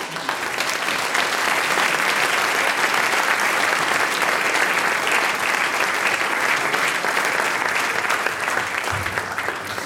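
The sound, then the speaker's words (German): Sustained audience applause for a band after their songs, a dense, steady wash of many hands clapping at even loudness for about ten seconds, with no voices standing out. “…, euer Applaus.”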